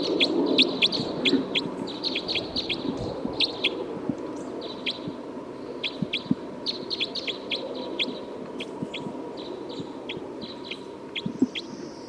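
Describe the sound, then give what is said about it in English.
A recorded bird, bird number 305, calls over and over in short, sharp, high-pitched chirps, sometimes in quick bursts, sometimes spaced apart, above a steady low background rumble. No one speaks. “Bird 305 again.”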